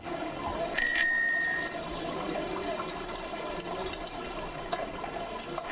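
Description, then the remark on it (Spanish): A bicycle bell rings once near the start, its bright ring briefly sustained over a steady wash of lapping canal water and outdoor street ambience on a street in Amsterdam, with no one talking. “El agua de los canales, los timbres de las bicis.”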